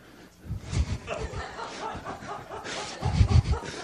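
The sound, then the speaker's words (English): A dog barks in short bursts, a few sharp barks early, then a louder cluster near the end, clear, with some muffled voice-like sound in between. “it's just like this sideshow of the barking of the dog.”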